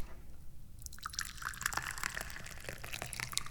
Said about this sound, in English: And what is it time to go do? It's time to go pour some tea.